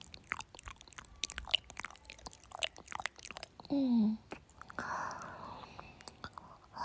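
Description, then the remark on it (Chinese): Wet tongue kissing sounds: soft, irregular smacks, clicks and slurps in quick succession, with a brief low hummed tone partway through and a breathy wash near the end. “听舌头搅拌在一起的声音。”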